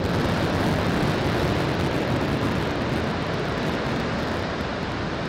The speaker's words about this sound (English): And speaking of the deluge system, this week we had an amazing show with the very first full-pressure test of the water deluge system.